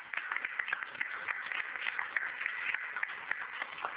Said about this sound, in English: Let's give her a warm welcome and applause.